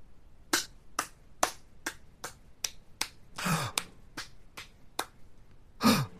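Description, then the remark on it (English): One person, a mother in a theater, claps slowly and steadily after a play's final line, about a dozen sharp, even claps with no voices, broken twice by a louder, breathier burst of noise. “Is that you clapping?”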